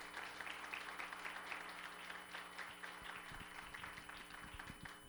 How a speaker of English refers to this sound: If you're looking forward to going to heaven, give Jesus one more hand clap of praise. Amen.